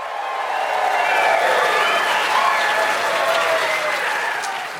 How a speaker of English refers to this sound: The raucous applause for my picks